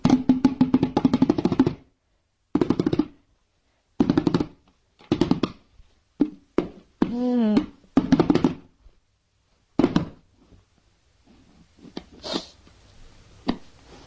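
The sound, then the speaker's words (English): A bucket is struck in quick bursts of hollow, thudding bangs separated by short pauses, with sung vocal sounds mixed in, then softer scattered taps and rustling toward the end. “Bang, bang, bang, bang, bang on the bucket.”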